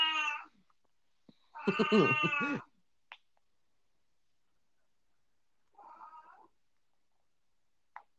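A cat lets out a few drawn-out, harmonic meows: a short cry, a longer wavering yowl, then a fainter call after a pause, with small clicks between and no talking.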